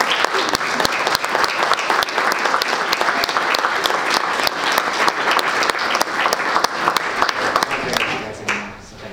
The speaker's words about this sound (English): So I just want to give a big round of applause to the Builders Club for their members.